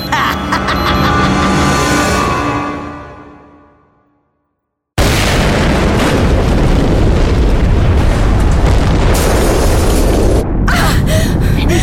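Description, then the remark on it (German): A deep, rumbling blast fades into silence, then another huge explosion erupts suddenly and roars on loudly and continuously, briefly dipping before the rumble surges again. “Der die Explosion ausgelöst hat.”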